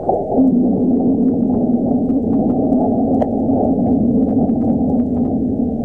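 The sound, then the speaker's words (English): Seismic vibrations from a meteor impact on Mars in December 2021, recorded by the seismometer on NASA's InSight lander and sped up about 100 times, form a steady, loud low rumble with a sustained droning hum, faint crackles and a brief tick near the middle, with no voices. “Here's the sound of the meteor's impact.”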